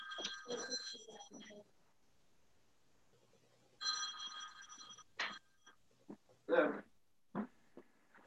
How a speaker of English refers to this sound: Excuse me, my phone. Why did I find my phone ringing? Sorry.